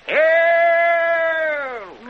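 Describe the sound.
A voice imitates a gasp as a single drawn-out, high, strained cry lasting about two seconds. It rises sharply at the start, holds a steady pitch, and sags at the end, with no other sound.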